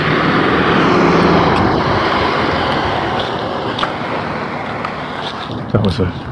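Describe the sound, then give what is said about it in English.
A heavy truck hauling a trailer rumbles as it makes a turn at a corner, its loud low engine roar slowly easing off, with a few light clanks and rattles near the end. “That was a truck hauling a trailer, making a turn there at the corner.”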